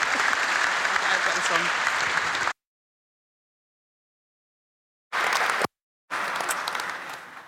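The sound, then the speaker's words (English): An audience in a temple applauds warmly to welcome a Bishop-elect, a dense, steady wash of many hands clapping at even loudness, broken by two abrupt silent gaps before the clapping resumes and gradually thins. “So it's my great pleasure to introduce to you and show your warm applause to Reverend Canon...”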